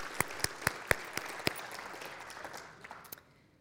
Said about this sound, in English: I think that we should give the Lord a hand clap of praise.